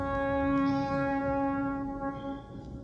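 A ship's foghorn on the Mersey in England sounds one long, steady, droning blast over a low rumble of background noise, holding for a couple of seconds before cutting off.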